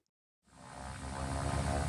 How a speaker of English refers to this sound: This is the sound from a small plane flying back and forth up and down the Georgia coast one winter day 3 years ago. Researchers were looking for North Atlantic right whales, as they do throughout the winter when the rare giants migrate south